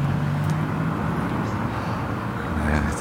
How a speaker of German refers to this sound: In diesem Moment diese Auto vorbeigefahren.